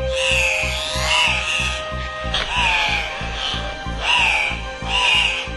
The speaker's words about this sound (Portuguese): A ópera dos galos toma conta. Estamos de frente para o palco, o ponto mais movimentado da floresta.